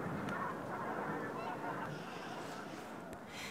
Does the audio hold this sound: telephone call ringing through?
no